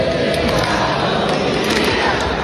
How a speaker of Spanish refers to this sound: A los segundos el público se pone en pie y le siguen cantando y con palmas. Todos oscuras.